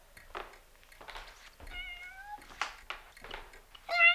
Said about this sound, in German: Hey, da ist ja eine der Katzen. Na, du Kleiner.